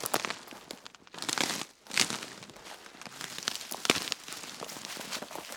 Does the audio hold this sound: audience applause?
no